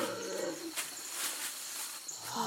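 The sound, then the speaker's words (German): A giant anteater, caught with a snare and given a sedative injection by a vet, bellows and groans in repeated rough bursts until the drug takes effect, fairly faint, with hissy noise and a few thin high chirps in the background. “Bis diese wirkt, brüllt das Tier aber ganz schön rum.”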